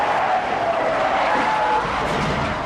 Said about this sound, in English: The sedan fishtails into the street, narrowly missing several cars.